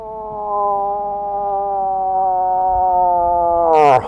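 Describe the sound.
A sustained, loud tonal wail holds steady for about four seconds, then drops and breaks off abruptly. It is a wildlife photographer's human imitation of a cow elk in heat, the come-hither mating call of the September and October mating season. There is no talking.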